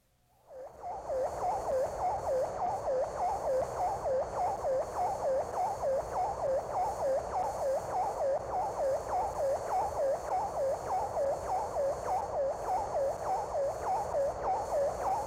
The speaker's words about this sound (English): The following telemetry signals were recorded from the tiny Vanguard 1 satellite, launched on March 17, 1958.